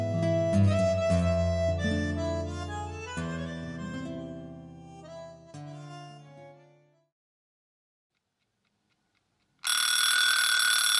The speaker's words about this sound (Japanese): こんな朝でも目覚ましをかけて寝てたのか。習慣ってすごいな。